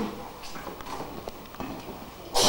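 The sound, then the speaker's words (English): A quiet stretch of soft taps and shuffling, then one sudden, loud, hissing sneeze bursts out right at the end. “Bless you.”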